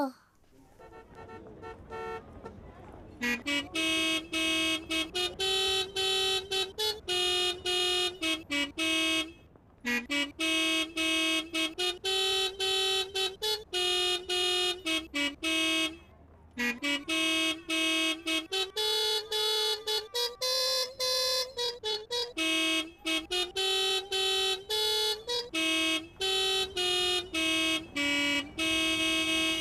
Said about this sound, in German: Sie haben so viel Spaß an ihrem Hupkonzert, dass sie gleich schon das nächste Musikstück anstimmen mit ihren Hupen. Und dieses Musikstück, das ist wirklich ein bisschen verflucht.